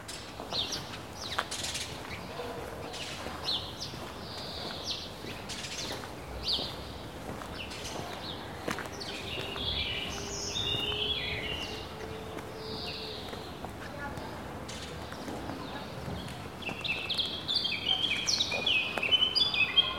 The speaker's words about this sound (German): Vögel waren das einzige Geräusch, wo immer da war. Und dann war so eigentlich so ein ganz schöner Soundtrack von den Vögelstimmen. Vögel überall.